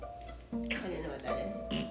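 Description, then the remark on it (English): A ketchup bottle being squeezed, giving wet, squelchy sputters and three or four short spurts of air over a steady droning tone, fairly loud throughout. “No, it's grossing ketchup bottles.”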